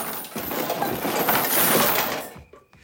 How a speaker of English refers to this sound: Grady runs in, pulling a chain with cans tied to it.